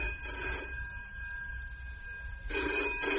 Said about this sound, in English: The telephone bell kept shrilling, and her anxiety had programmed itself into the sound.